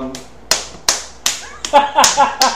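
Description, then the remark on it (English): Sharp, loud knee slaps strike in an uneven rhythm: three spaced hits, then a quicker flurry of smacks mixed with brief vocal sounds. “Well, that is a Polish knee slap.”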